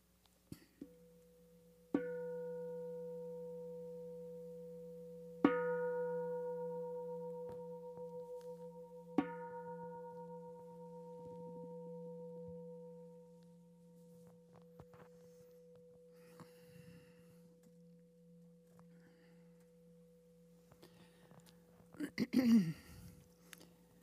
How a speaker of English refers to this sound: We'll end with three bells.